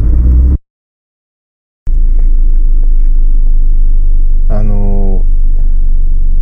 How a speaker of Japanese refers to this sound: 車の量が多くてトラックも結構じゃんじゃん走ってたりなんか